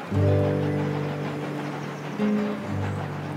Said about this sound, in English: In 1890, a coal-powered, steam-spewing locomotive plunges south from the island of Montreal. The train thunders along the tracks that cut through the new capital of Ottawa.